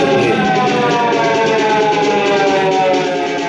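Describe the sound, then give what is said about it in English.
Loud, sustained sirens wail continuously, several overlapping tones layered into a dense, steady blare as police cars arrive in front of a courthouse, with no voices. “So we're seeing the police cars arrive in front of the courthouse.”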